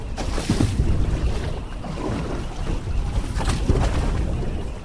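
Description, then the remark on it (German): A passenger boat rides a choppy sea off San Francisco, near the Golden Gate Bridge, water slapping and rushing against the hull in uneven surges while steady wind buffets the microphone. No one speaks. “Heute ist zum Glück ein eher ruhiger Tag. Und doch schlägt der Wellengang auf den Magen.”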